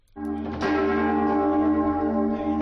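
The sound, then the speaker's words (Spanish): The largest bell of Mallorca Cathedral, a large, deep bell, tolls once and keeps ringing loudly, its rich layered hum sustaining throughout with no voices. “Hoy ha sonado la campana mayor de la Catedral de Mallorca.”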